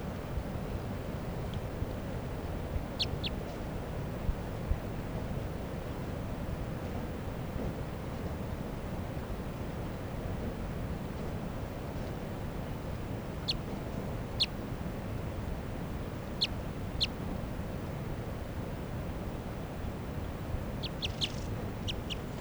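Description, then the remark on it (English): Short, high-pitched calls of a female wild bird sound in scattered pairs and small clusters over a steady low rumble of wind, with a quick flurry of chips near the end. “Now she's flying down to 387. Wild bird. Wild bird.”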